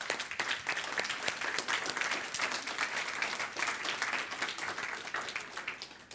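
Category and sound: crowd, audience applause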